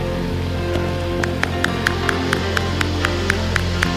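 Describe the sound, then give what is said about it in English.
An audience stands and claps hands in praise of God in a steady, even beat, about four claps a second, starting after a moment and continuing over a sustained, droning musical backdrop. “In the name of Jesus, stand on your feet, clap your hands, and give God some praise.”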